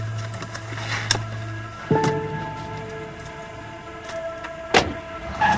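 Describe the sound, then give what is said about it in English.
A car with a license plate reading Halen pulls away, its steady engine hum carrying through the scene, punctuated by a few sharp mechanical clunks. No one speaks. “He sees that her license plate says Halen as she drives away.”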